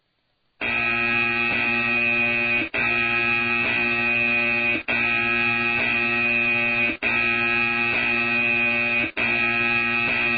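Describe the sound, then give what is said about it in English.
A loud, harsh electronic buzzer sound effect blares in long sustained bursts, cutting out briefly about every two seconds before sounding again, with no talking over it. “Where's my buzzer?”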